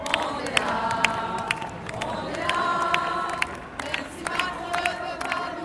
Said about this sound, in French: Avocats et enseignants se mêlent au badaud et c'est la foule qui pousse la voix en premier pour accueillir les pensionnaires de l'Opéra.